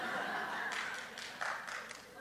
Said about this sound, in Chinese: 拍手的是不是都小家长啊？